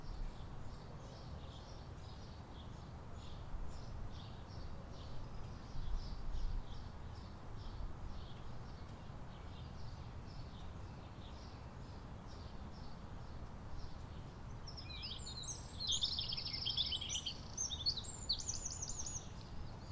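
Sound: birds chirping and calling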